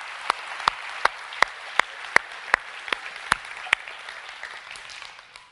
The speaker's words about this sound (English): All of our people that work with our children, would you stand up? Would you give these guys and gals a round of applause?